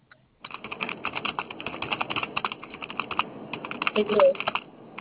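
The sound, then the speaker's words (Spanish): Steady, rapid typing on a computer keyboard, dense clusters of key clicks running continuously from near the start, moderately loud with a faint background murmur. “Tecleo, tecleo, tecleo.”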